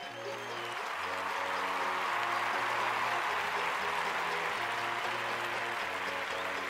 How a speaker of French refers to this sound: Un tonnerre d'applaudissements, mesdames et messieurs, pour Charlot.